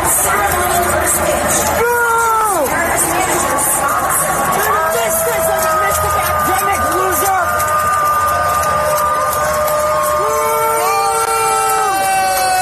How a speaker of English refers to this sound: That was a rousing way to start off the game. Booing Anthony Fauci. Nice job, Mariners fans.